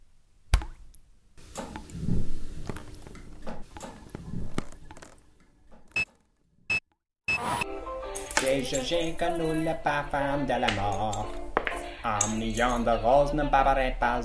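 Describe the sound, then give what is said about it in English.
Coins clink into a bucket one after another: sharp, irregular metallic taps with short gaps between them. After about seven seconds a person starts talking and the clinking stops. “I spent the morning tossing coins into a bucket.”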